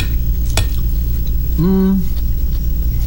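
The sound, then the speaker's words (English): Eating a salad of mixed greens, herby potato and green beans with vinaigrette, using cutlery, with the microphone on the desk: a single sharp metallic clink of a fork against a dish, followed by a short, low hummed voice over a steady background rumble. “But I'll still be chewing.”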